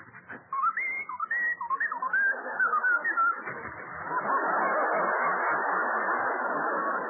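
A short whistled melody of gliding, wavering notes plays clearly for a few seconds, then fades into a sustained, broad wash of crowd-like noise.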